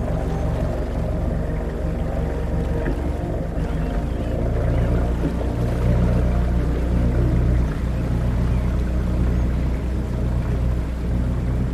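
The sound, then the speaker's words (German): A motorboat engine drones steadily and loudly throughout as the boat starts and heads upstream on a river, a low continuous rumble with water churning beneath it, unbroken, with no voices. “Der Motor startet, ihr fahrt flussaufwärts.”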